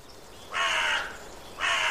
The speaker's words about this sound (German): Kra, kra. Kra, kra. Wer ruft denn da? Bobo geht ans Fenster. Da, ein Vogel. Er fliegt über Bobos Haus.